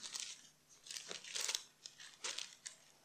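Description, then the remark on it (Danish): Thin pages of a Bible being turned one after another to find a passage: soft, papery rustles and crinkles in quick, irregular bursts, fairly quiet, with no one speaking. “Bare et par, nogle få blade længere tilbage.”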